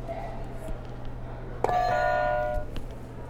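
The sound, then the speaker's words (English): A buzzer is pressed once, giving a sharp click followed by a steady, bright electronic tone rich in overtones that holds for about a second and stops, over a low background hum. “All right, do you want to hit another buzzer, or maybe you can hit two at once?”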